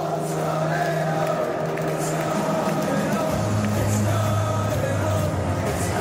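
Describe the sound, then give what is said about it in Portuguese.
A large crowd of English football fans supporting England at the Euro chants "It's coming home" in unison, loud and continuous, their sustained sung notes rising over a dense roar of voices that fills the whole stretch. “Os ingleses ficavam cada vez mais empolgados e os gritos de "It's coming home", em português, "está voltando para casa", embalava a torcida da equipe dos Três Leões.”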